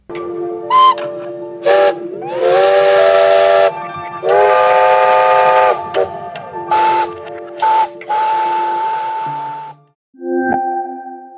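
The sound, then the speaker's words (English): A series of seven vintage steam locomotive whistles from the beginning of the last century, some short toots and some long sustained hoots, each chord-like tone wrapped in hissing steam, loud, ending with a different, thinner whistle. “Whistles of Vintage Steam Locomotives by White Crow Sound Production contains 7 steam locomotive whistles from the beginning of last century.”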